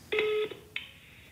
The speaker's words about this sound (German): Ungerührt lässt er sich vom Zufallsgenerator eine neue Nummer aussuchen, tippt sie in sein Handy ein und ruft an.